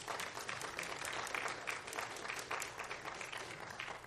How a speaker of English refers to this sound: They've done a tremendous job this week. Would you just give them a hand this morning?